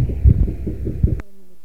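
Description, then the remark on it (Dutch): Riot police in full riot gear and helmets, at the corner of the Stopera, the Amstel and the Zwanenburgwal in Amsterdam, stamp their batons to warm up in a steady, rapid rhythm of dull, low thuds, ending abruptly with a sharp click before a faint, steady hum remains. “Zijn ze gewoon aan het opwarmen met stampen van de wapenstokken.”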